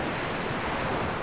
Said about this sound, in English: let the waves play out, Reg. Just take us off with the waves.